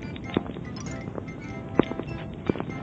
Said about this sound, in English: And while we were hashing this out, we suddenly heard some mysterious footsteps right behind us.